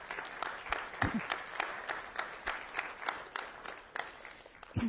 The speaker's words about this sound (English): So I think that the Lord deserves an applause on that one, right?